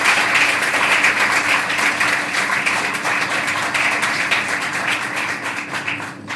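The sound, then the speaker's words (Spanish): At a Partido Popular gathering, a crowd applauds the former local party president: dense overlapping claps forming a loud, sustained patter that carries on throughout and eases off slightly at the very end. No one speaks. “y quiero pedir para él un fuerte aplauso.”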